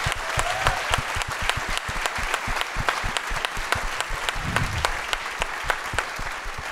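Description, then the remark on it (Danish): A big round of applause from an audience, given for a filmmaker present that evening, fills the whole stretch, dense rapid clapping at a steady loud level with no voices breaking through. “Er I ikke søde og giver mig et kæmpe stort bifald, fordi det er fucking ballsy.”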